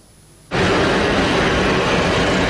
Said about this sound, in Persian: چرخ هواپیما از زمین کنده می شود، دل آنها از وطن.